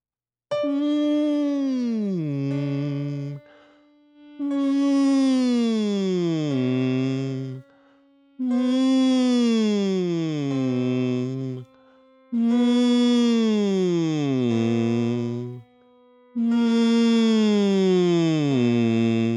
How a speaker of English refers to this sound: So the first one we start on with a hum, standing nice and tall, shoulders nice and wide, top of your head floating up, jaw relaxed, lips together, humming through your range. Here we go.